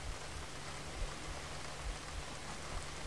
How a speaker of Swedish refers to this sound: Vi föreställer oss att vi står utomhus. Vänder ansiktet upp mot himlen och låter de mjuka regndropparna möta ansiktets hud.